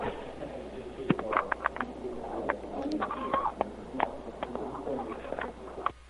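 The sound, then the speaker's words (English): Feral hens clucking steadily, a busy layer of short, overlapping clucks and brief squawks at moderate loudness, with occasional sharper peaks and no talking. “And chat room, can you hear the chickens?”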